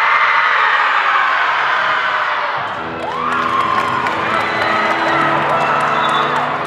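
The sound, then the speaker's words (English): A girls' volleyball team, the Jaguars, lets out a loud collective breathing roar before the opening buzzer of the A Division Girls Volleyball Championship game, a dense surge of many young voices, followed by continued shouting and cheering from the group. “Before the opening buzzer, the Jaguars do their breathing roar again to get their nerves out.”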